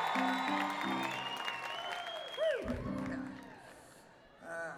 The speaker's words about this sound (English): And well, you can clap if you want, but it's just a fishing village. Yeah, I would like it if you clap.